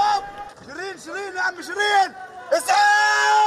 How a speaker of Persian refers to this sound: صدای تیراندازی و بعد فریادهای تیم خبری شبکه الجزیره.